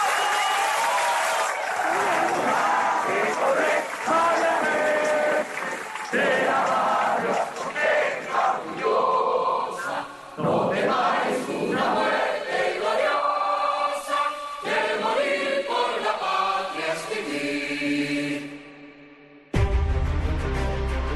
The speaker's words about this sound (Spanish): Sin la presión de ustedes aquí afuera, sin los aplausos que ustedes hicieron mientras estamos discutiendo, sin los gritos que ustedes dieron mientras nosotros estamos discutiendo, nosotros no hubiéramos podido llegar a estos acuerdos.